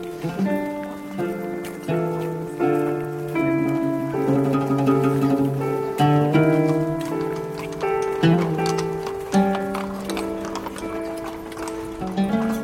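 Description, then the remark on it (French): Hooves of a horse-drawn carriage clip-clop in a steady, moderate rhythm on a street in Vienna, mixed with sustained melodic tones that shift in pitch throughout. “Calèche. Tac, tac, tac. Comme à l'époque.”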